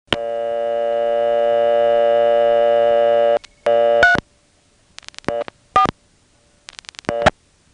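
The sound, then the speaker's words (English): A telephone busy signal: a steady electronic tone holds for about three seconds, then breaks into short, uneven beeping bursts, clear, with no voices. “Sure enough, the second call got a busy, and then the first call started ringing.”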